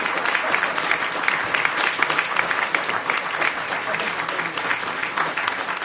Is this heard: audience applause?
yes